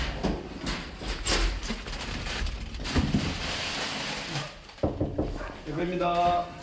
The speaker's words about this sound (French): Un stylo coincé dans la porte de l'ascenseur pour chaque étage